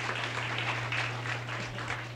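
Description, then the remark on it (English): An audience gives DJ Ralph Embry a big round of applause, with steady, dense clapping that holds an even level for about two seconds, over a low electrical hum. No one speaks. “He said, let's give Ralph a big round of applause right here.”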